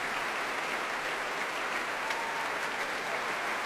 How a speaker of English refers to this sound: Timpan is getting a big cheer. That was Paul Turner.